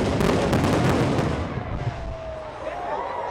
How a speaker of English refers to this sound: the pyrotechnicians brought some of the biggest fireworks the city has ever seen